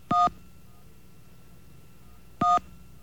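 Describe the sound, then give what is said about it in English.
Two short phone keypad tones from pressing the 1 key, each a brief, steady dual-pitched beep, sound about two seconds apart over a faint low hum. No one speaks. “I'm going to try to hit some ones as the door slams.”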